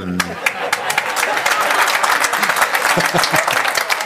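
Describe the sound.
A crowd at a live event, behind the person being interviewed, applauds steadily with a dense wash of clapping and cheering voices throughout, just after Dortmund is named. The sound is loud and continuous for about four seconds.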